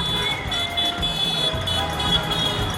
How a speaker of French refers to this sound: Et les rues de Barcelone sont animées à partir de 10h du soir par les casserolades et par les voitures qui klaxonnent en passant.